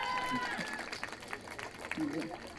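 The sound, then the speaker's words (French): A scattered burst of audience clapping, mixed with murmuring and a few voices talking over it, moderately loud and steady throughout, as audience members without children applaud when asked. “Bon, qui a pas d'enfants ici, par applaudissement?”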